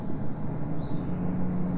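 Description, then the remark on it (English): A steady low engine rumble from a car passing outside, moderately loud and continuous, with a faint hum riding on top and no voices. “Yeah, I hear that car.”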